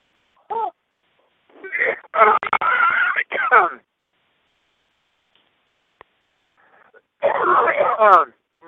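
Harsh, raspy coughing comes through a tinny phone line in loud bursts: a short one, then a cluster of rough hacks, a pause, and another strained fit of coughing.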